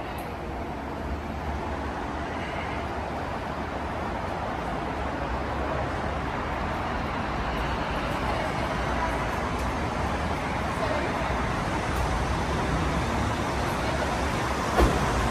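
An Aventador sports car drives steadily, its engine rumbling low beneath a constant rush of road and tire noise. The sound stays loud throughout, with no voices.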